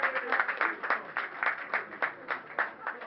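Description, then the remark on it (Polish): A crowd applauds the candidates at a Miss University pageant as the verdict is presented. The applause lasts about three seconds, a dense, steady patter of many hands clapping at once with a few sharper claps standing out, at moderate loudness and with no one speaking over it. “Brawa dla kandydatek.”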